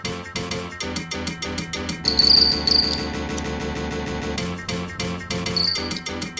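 Two crickets fighting in a plate-sized arena chirp in rapid, shrill trills, singing against each other in overlapping bursts, fairly loud over a steady low hum, with no talking.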